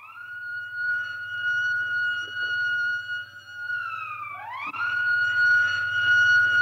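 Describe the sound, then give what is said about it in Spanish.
A loud alarm siren wails steadily, its tone sagging slowly before sweeping sharply back up and holding, with a low droning hum running underneath throughout. “Corrió hacia un lado del estante e hizo sonar la sirena de alarma.”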